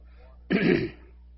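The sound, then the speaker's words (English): A single rough throat-clearing cough, fairly loud, lasting about half a second, with quiet room noise before and after. “You're a little out of water, and my all of a sudden have birthed the cough.”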